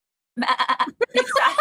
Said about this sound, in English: Is that a goat? That's not really a goat. That's more of a sheep.